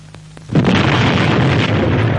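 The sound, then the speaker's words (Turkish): A sudden, loud explosion of a thrown bomb bursts in after a quiet moment with a faint low hum, followed by a sustained, roaring rumble of debris and blast noise. “Hangi hayvan attı bu bombayı?”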